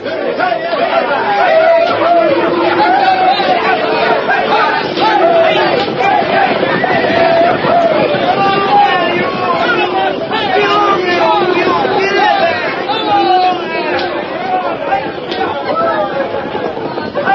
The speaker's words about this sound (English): Thousands of frantic, yelling, riding, and wildly excited people poured across the Kansas state line and into the Cherokee Strip. They came on horseback and on foot, by wagon, buckboard, and scooter.